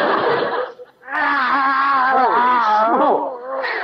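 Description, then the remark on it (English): Skid Row tomcats in Los Angeles, following a man, yowl in a loud, drawn-out wail whose pitch bends up and down for several seconds, preceded by a short, rough, hissing burst and a brief pause. “Another cat following me.”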